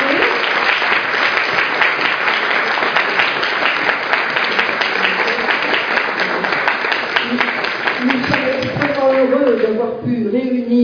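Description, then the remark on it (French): A loud, steady burst of audience applause for a lecturer after his talk at the Université du temps libre de Sarlat, with dense overlapping claps, sustained for about nine seconds before thinning out as a voice begins speaking at the end. “Nous allons applaudir notre conférencier.”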